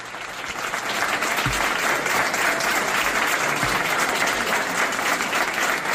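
A sustained ovation from a sizable crowd, bidding farewell to a Guardia Civil officer after 49 years of service. Dense continuous clapping stays loud and steady for the whole stretch, with no voices rising above it.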